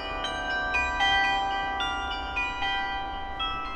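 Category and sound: signal or alarm, carillon bells playing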